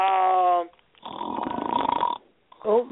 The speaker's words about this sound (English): Somebody's snoring. Sound like they're snoring, huh? That yeah. might be him.